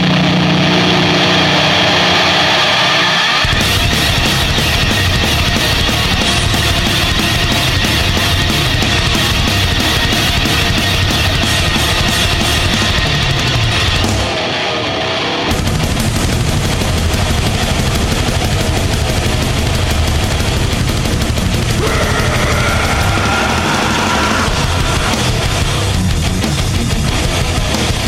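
A loud heavy metal song plays, thick with distorted guitars and pounding drums in a dense wall of sound, with a brief drop near the middle before it crashes back in at full force.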